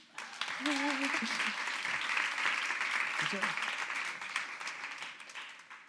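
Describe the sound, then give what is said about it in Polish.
An audience applauds a volunteer coming up to the front, in a steady, dense wash of clapping that holds for several seconds, with a few brief voices calling out over it before it starts to taper. “Oklaski.”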